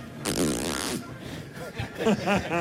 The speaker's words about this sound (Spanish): Pero ahora parece una cremallera.